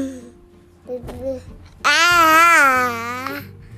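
baby babbling

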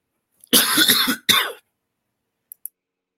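cough

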